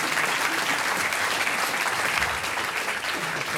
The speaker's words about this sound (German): Und den darf ich jetzt mit einem Applaus begrüßen, Bürgermeister Alfred Lenz.